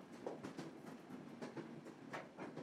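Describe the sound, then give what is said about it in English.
A steam train on the West Highland Line rolls slowly into the town of Malleg, its wheels clacking in an uneven rhythm over the rails beneath a steady, fairly soft rumbling hiss, with no voices. “The train pulled slowly into the town of Malleg, the last sigh of white steam. The rails squeaked softly, and the train came to rest with a slow hiss.”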